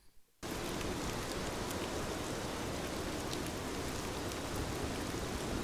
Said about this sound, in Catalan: Després d'una estona va començar a ploure superfort.